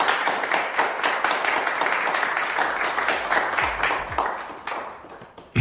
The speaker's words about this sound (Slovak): No tak to bol fakt trápny potlesk. Akože je nás tu takto málo, takto o 6.02.